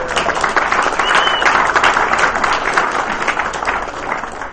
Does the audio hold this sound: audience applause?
yes